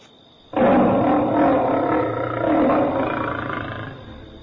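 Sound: tiger roaring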